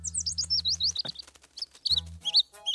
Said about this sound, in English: Oh, poor baby bird. It must have fallen out of his nest. Look, Grandma, it's shaking. It must be cold.